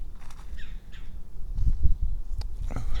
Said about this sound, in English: Well, I can't figure out what these birds are chirping about.